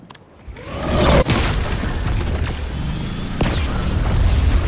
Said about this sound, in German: Ah, Schüsse!